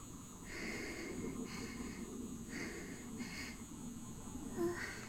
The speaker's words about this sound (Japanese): お外飛行機が飛んでてすいません、今聞こえづらいかもしれない。お外の飛行機、音入ってすみません。